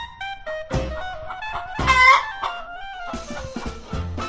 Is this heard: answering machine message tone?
no